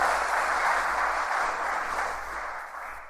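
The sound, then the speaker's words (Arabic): A crowd applauds the Holy One steadily, a dense wash of many hands clapping at once with no voices on top, holding fairly even before easing off slightly toward the end. “كيف لا تحب القدوس تبارك وتعالى؟ تصفيق.”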